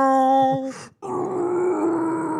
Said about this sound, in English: And I always love the sound of a screaming kid slowed down.